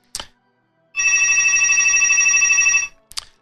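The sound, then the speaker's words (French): A telephone rings once in a steady, shrill electronic burst lasting about two seconds, loud, framed by brief clicks just before and after, with no talking. “je pousse le téléphone, on va attendre que ça passe.”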